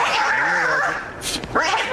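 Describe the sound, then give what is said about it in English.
A dog yips and barks in quick, excited bursts, fairly loud, with whiny high-pitched cries and a sharp noisy flurry partway through. “your cats and dogs are acting up.”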